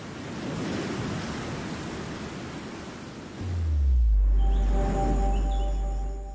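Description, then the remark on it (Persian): A dense, steady roar of heavy downpour fills the first half, then gives way to a deep low rumble with sustained tonal hums. No voices. “رگبارها می‌توانند باعث سیل‌های ناگهانی خطرناکی شوند.”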